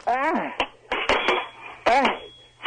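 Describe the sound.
Several sharp, irregular clacks of sword fighting, as Christopher Walken rehearses for the role of Captain Hook in an NBC show, clash over a narrow phone line, mixed with strained vocal sounds and talking.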